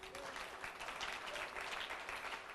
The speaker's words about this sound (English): You've just act like a fool. Oh, I think you will clap for that.